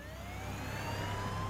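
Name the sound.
police car siren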